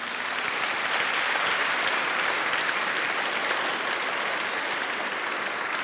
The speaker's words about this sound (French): Applaudissons encore le Saint-Esprit.